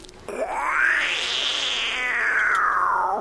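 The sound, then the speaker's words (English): A person imitates a wildcat's scream: one loud, strained cry that rises sharply in pitch, holds a long high wail, then drops away at the end. No talking. “If you're lucky enough, you be down in the river swamp, you might hear a wildcat.”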